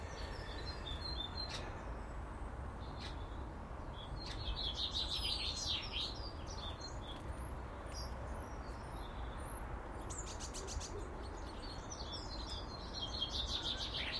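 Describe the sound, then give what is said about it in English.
Many birds sing and chirp at once, starlings among them, on a fine, dry day with the sun climbing. A busy overlapping mix of high whistles, clicks and trills runs throughout over a steady low rumble of background noise. “So many different bird songs, man. Starlings have come to the suit block.”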